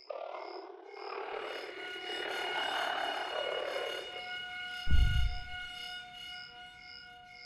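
An electronic oxygen alarm drones with steady, layered tones and a faint repeating pulse on top, set over a murky rumble, with a sudden low thump about two-thirds through.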